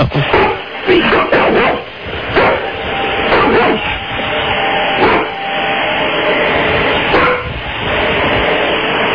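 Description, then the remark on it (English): A big yellow Labrador barks over and over in loud, irregular bursts, 16 barks in a timed 30-second try, with a steady rushing noise running underneath the whole time. “16 barks, not so sweet for Stephen all right, Copper.”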